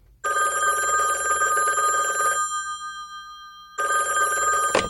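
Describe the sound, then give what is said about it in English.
A telephone rings loudly around noon: one long bright electronic trill, a brief pause, then a second ring begins. No one speaks. “The next day, around noon, my phone rang.”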